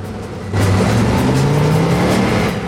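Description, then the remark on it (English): A car hurtles round a corner, its engine bursting in loud, revving hard as it accelerates, its pitch climbing steadily under a rush of road and tire noise, with no one speaking. “Jean's car hurtles round the corner.”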